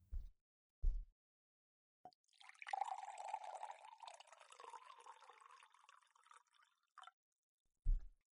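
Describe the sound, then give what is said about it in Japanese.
A thick, sweet juice is poured into a glass in one steady stream lasting about five seconds, framed by a few soft knocks and clinks before and after. There is no talking. “あら、もう一杯飲みたい？いいわよ、ちょっと待っててね。”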